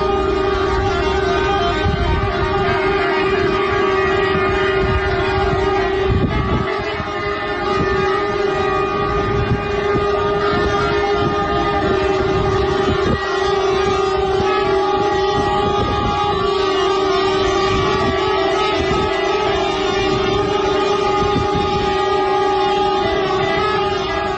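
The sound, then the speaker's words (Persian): Horns of hundreds of trucks blare at once in a loud, unbroken chorus of overlapping tones that holds steady for the whole stretch, with no voices, as drivers protest at Bazargan customs on Iran's border with Turkey over repeated outages of the customs electronic system. “رانندگان در این اعتراض همانطور که شنیدید بوق کامیون‌های خود را به صدا درآوردند.”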